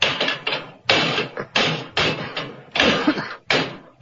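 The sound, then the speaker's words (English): Heavy metal levers bang and scrape against locked brass doors in the base of a monument, about seven loud clanking strikes in an uneven rhythm, with no voices. “Those are brass doors in the base, and they're locked.”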